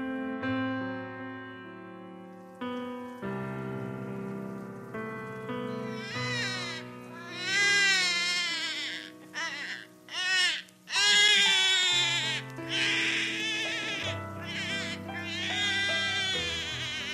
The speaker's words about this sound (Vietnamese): Hình như có tiếng trẻ khóc ở phía trước, tiếng khóc non nớt của đứa bé sơ sinh. Chị lắng tai nghe kỹ. Tiếng khóc nín bặt rồi lại cất lên.